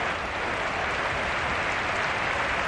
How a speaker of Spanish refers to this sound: El aplauso homenaje de toda su afición